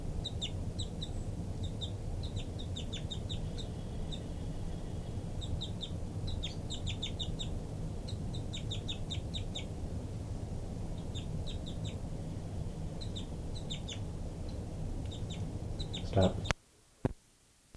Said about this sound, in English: Flight call by 5-9. Three, three, continuing. Flight call by 5-9, begging by the baby.